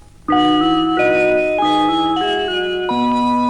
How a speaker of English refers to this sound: In this call sign for BBC Radio Solent, also by Delia Derbyshire, she uses the ring modulator to make unusual chime sounds.